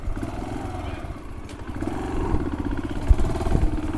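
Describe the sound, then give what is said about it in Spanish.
A motorcycle engine rumbles steadily, its low mid-pitched drone rising and falling as it rides along trails leading to a humid forest reserve in Honduras, with occasional clattering bumps and jolts over rough ground. “me llevó en moto por unos senderos que conducen a una zona de bosque húmedo que ellos han declarado una reserva.”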